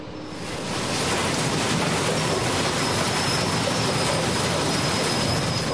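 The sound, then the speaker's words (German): A train rolls through the railway station at Freiburg, its rumbling roar swelling in within the first second and holding steady, with a thin high metallic whine running over the noise. “Hier zu Freiburg am Bahnhof kann man bald schon eine erste Etappe abschließen.”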